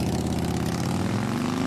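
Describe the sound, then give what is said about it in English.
A Harley motorcycle engine rumbles with a loud, steady low growl, its throaty pitch edging slightly upward toward the end. No voices are heard. “As Wisconsin is hitting the road on your Harley.”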